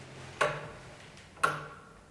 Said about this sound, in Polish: Stoimy przed taką metalową ramą, gdzieś 1,50 m długa, wysoka na 50 cm, szeroka na jakieś mniej więcej 40. I wewnątrz tej ramy jest dosyć sporo mosiężnych zębatek. Jest takie też i wahadło, to słychać jak to cyka.